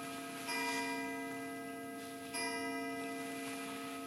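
A wall clock in a ministry office strikes twice, about two seconds apart, each resonant chime ringing on and overlapping the next, with a faint mechanical ticking beneath and no voices.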